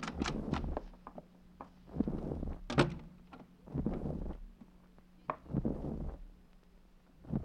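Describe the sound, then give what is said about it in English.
A door opens with a series of clunks, rattles and thuds spread over several seconds, like someone pushing it open and stepping inside. No one speaks. Police open an unlocked door and walk in. “The door's unlocked. Walk in.”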